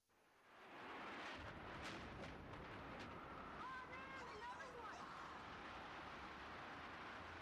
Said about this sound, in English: Oh my God, an explosion now. Oh my God!